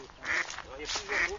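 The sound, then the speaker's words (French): Mallard ducks quacking in short nasal bursts, two main calls about a second apart, with a faint outdoor background; a colony of ducks resting at the edge of the Vieux Louet, near the Touchetterie canal, about 1500 metres from the Loire. “Écoutez, là vous avez toute une colonie de canards qui sont posés en bordure du Vieux Louette.”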